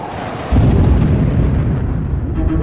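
A thunderstorm over an empty stretch of open sea, raining into the ocean, roars in after a quiet half-second start: a loud, deep, continuous rumble with a rough, crackling texture that stays heavy and steady to the end. No voices.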